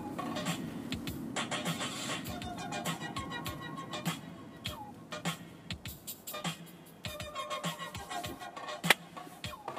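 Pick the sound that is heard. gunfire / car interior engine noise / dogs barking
car interior engine noise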